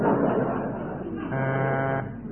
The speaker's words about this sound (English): That's a buzzer. That's a very thick horn.